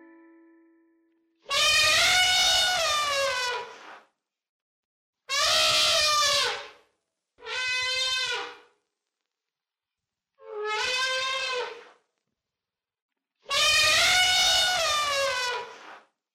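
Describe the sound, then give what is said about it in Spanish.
An elephant trumpets five times, each call a loud, brassy, high blast lasting one to two seconds, separated by short silences, with no voices present. “El sonido sorpresa de hoy fue el de un animal enorme. ¿Sabes cuál es? ¡Es el elefante!”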